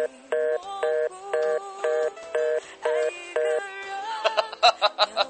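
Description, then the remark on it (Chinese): A telephone busy tone after a hang-up: about eight evenly spaced, steady beeps at a moderate level, followed by a short stretch of denser, irregular sound at the end. “得了，挂了。”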